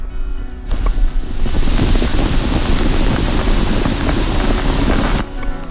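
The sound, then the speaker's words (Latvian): A campfire burns outdoors at night at minus 15 degrees, with a steady, rushing hiss, dotted with many small, irregular pops and crackles of firewood. The sound holds for about four and a half seconds with no voices. “Šobrīd esam nofiksējuši temperatūru mīnus 15, tātad šajā vietā, kur mēs esam, deg ugunskurs, varat paklausīties, kā klusumā šprakst malciņa.”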